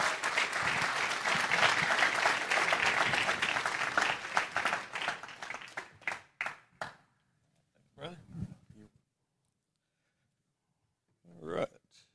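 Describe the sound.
An audience applauds with dense, steady clapping for about five seconds to welcome a guest speaker, then it thins into a few scattered claps and fades, followed by brief bits of voice.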